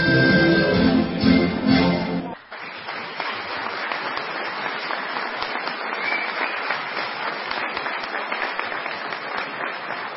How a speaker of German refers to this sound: Nach dem Besuch auf dem Friedhof gab es im Kulturhaus der Gemeinde Linoheim am Sonntag eine gelungene Tanzvorführung des Trachten- und Tanzvereins Fide der Heiderose. Der Auftritt wurde mit viel Applaus belohnt.